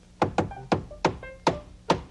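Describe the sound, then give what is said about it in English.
Six sharp hammer blows land in an uneven rhythm, each a loud, bright knock, with faint pitched ringing between strikes. No one speaks. “And what's more, that hammering you're doing sounds like play to me.”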